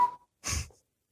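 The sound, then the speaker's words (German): A squeezed toy pig lets out a quick thin whistle, then a breathy, wheezing rush of air, fairly quiet, with no one talking. “Ich packe meinen Koffer, ich nehme mit meine Cola-Dose, nehme mit meinen Wein, mein Rasierapparat und mein Schwein, das pfeift.”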